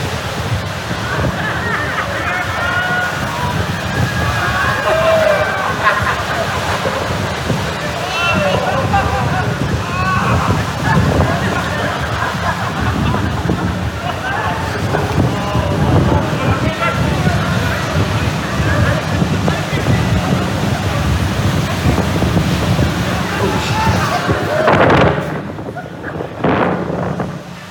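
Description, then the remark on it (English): A crowd of grant makers shrieks and shouts over crashing, sloshing surf as they jump into the frigid Arctic Ocean waters at Utqiagvik, Alaska, a dense, continuous roar of voices and waves that cuts off near the end. “For funders, you jump into the frigid waters of Utqiagvik with your fellow grant makers.”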